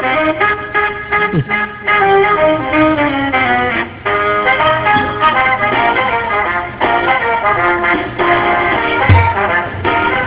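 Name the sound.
phone ringback tone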